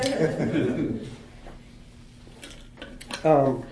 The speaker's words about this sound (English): Excuse me, let me grab a little bit of a drink here.